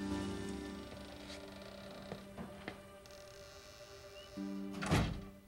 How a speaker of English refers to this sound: She unlocks the door and lets herself in.